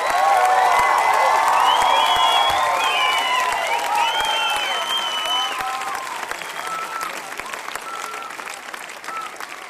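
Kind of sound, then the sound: crowd, audience applause and cheering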